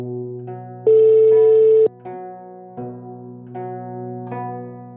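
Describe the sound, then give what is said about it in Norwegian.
Steady electronic telephone tones play alone, a sustained ringback hum with a louder, brighter one-second beep in the middle, followed by a few short stepped tone changes as a phone call to the police connects. “Hei, du, dette er Stein Morten Lier som ringer.”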